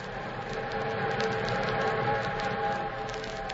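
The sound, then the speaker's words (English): An eastbound train rumbles steadily along the tracks with a dense, continuous roar and a faint sustained tonal hum riding on top. It holds at an even loudness throughout, with no voices. “Meanwhile, the eastbound train thundered on.”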